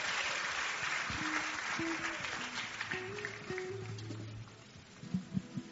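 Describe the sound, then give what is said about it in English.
An audience claps hands in a steady, dense wash of applause that runs the whole time, while low sustained keyboard notes play underneath. The clapping is for the Lord as people take their seats at a Wednesday Communion Service. “Give the Lord a big clap of hand as you take your seat.”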